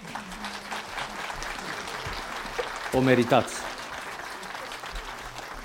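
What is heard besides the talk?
audience applause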